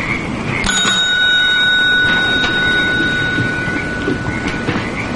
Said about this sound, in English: Later, the two men enter the motel office. Frost rings a bell on the counter and looks around.